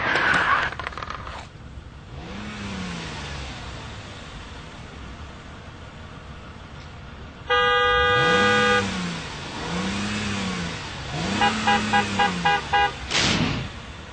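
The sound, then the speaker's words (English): Car horns blare in street traffic, a long sustained honk followed by a burst of short rapid toots, while engines rev up and down repeatedly. No one speaks. “Here's a visual of help, don't honk.”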